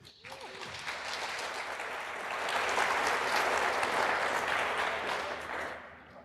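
A large audience claps steadily, a dense, sustained round of applause that swells slightly in the middle and holds loud throughout, with no voices standing out.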